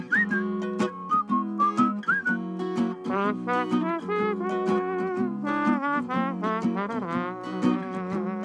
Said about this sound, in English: That's a great song, and I love the way you do it. I love the whistling, that little, and that little trombone sound that you get at the end there.